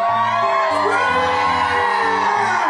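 audience screaming and whooping

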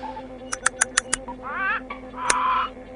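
parrots squawking

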